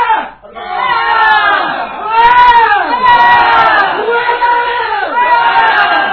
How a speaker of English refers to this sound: It's got a chorus. The chorus is a primal scream, okay? Of a low bass tone, okay? So, I know there's different types of primal screams. I do the low bass one, okay?